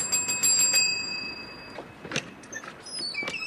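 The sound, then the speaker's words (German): A small bell rings in quick, rapid strikes for under a second during a staged scene from Kafka's The Trial, its bright, high metallic tone hanging on before fading, then a few soft clicks and knocks follow. No one speaks. “Sie haben geläutet.”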